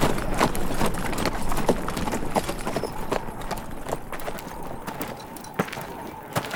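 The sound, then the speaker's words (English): Horse hooves clip-clop in a steady, uneven rhythm of sharp knocks over a constant low outdoor rumble with no talking. “You can put your horse in the circle with our mounts and the rest of the livestock.”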